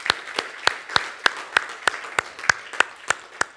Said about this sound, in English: Can we give the Lord one more round of applause and the children as they go?